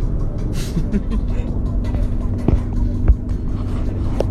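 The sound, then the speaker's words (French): A car engine rumbles low and steady as the vehicle crawls slowly up hills in the Puy-de-Dôme, Auvergne, France, with a few brief clicks and knocks over the continuous drone, fairly loud throughout. “La voiture anguille se traîne dans les côtes.”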